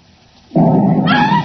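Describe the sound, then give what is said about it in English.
A sudden loud blast, an explosion in an upstairs room of a house, bursts in after a quiet moment and keeps roaring as a heavy, rumbling wash of noise, with a harsher crackling edge rising near the end. “Heavens, that was an explosion.”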